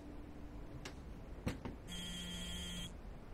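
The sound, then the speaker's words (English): A cell phone rings once with a bright electronic trill lasting about a second, preceded by a few soft clicks, heard clearly with no one speaking. “She picks up her cell phone.”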